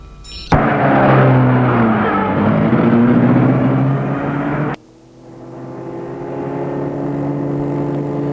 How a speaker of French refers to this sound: Et il met la voiture en marche.